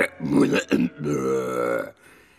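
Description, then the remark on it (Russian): The Gryphon makes low grunting hmph noises: two short throaty bursts followed by a longer, drawn-out rumbling grunt, with no words spoken. “Лишь Грифон иногда подхмыкивал.”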